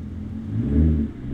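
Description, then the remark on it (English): Low, rumbling car engines idle, one swelling briefly louder as it accelerates before settling back to a steady hum, with no voices: a long line of cars starting, stopping and slowly winding around Linwood Elementary School in Lafayette, Indiana, at a food distribution. “On Tuesdays and Fridays, a long line of cars starts and stops and slowly winds its way around Lafayette's Linwood Elementary School.”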